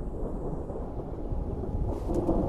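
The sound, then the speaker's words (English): Heavy rain, the long-awaited rains of the southern Serengeti, pours down steadily in a storm on the plain, a dense, continuous wash of sound with a deep rumbling undertone that swells slightly toward the end. No voices. “Hunched over and drenched, a vulture stands in the pouring rain, oblivious to the water dripping from its dark feathers.”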